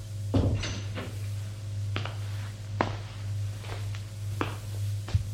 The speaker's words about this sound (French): Rémi va ouvrir une porte. C'est la 601. Entrez. Ils entrent tous les deux.